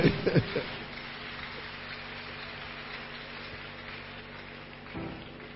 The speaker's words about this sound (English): Clap your hands now.